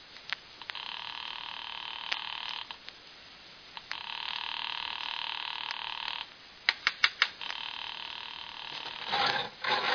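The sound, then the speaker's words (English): A telephone ringback tone heard over the line as a call to Webber's apartment goes unanswered, repeating in long buzzing bursts separated by pauses, with a few quick clicks between rings and no one picking up. “I'll ring Webber's apartment just in case.”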